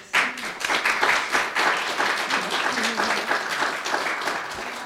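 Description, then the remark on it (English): A crowd in a hall at the Kingston municipal library breaks into steady applause, many hands clapping at once in a dense, sustained patter that holds at an even loudness throughout, with a faint voice murmuring underneath. “Vous pouvez vous offrir une bonne main d'applaudissements.”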